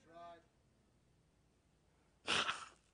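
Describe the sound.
A man blows his nose in one loud, forceful, rushing honk lasting about half a second, following a short voiced sound and a stretch of quiet.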